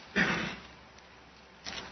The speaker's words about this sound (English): I like hearing those pages turn. That's cool.